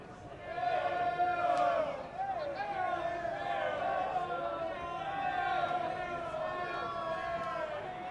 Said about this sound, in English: Not a bad Thursday night crowd here at Hammond Stadium.